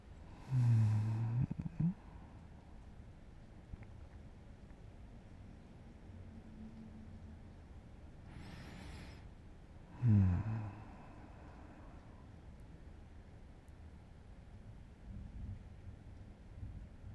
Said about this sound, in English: The rain is nice.